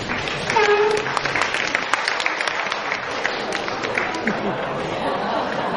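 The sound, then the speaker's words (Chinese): Steady, dense audience applause at a Deyun Society crosstalk show fills the whole stretch, a thick wash of many hands clapping with crowd murmur and a brief voice or whistle early on. “谢谢大伙的掌声。”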